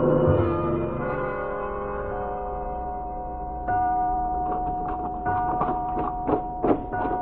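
A clock strikes with deep, resonant bell tones that ring and slowly fade, a second stroke sounding midway, followed by a quick series of softer pulsing chimes. No one speaks.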